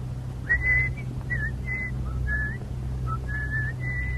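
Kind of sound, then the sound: human body sound, person whistling a tune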